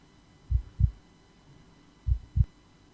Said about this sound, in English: All right, so let's press enter to play scene 1 of A Blind Legend. Loading. And that's his heartbeat going.